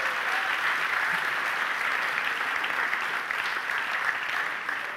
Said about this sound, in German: Und dann können wir einen Applaus geben an alle.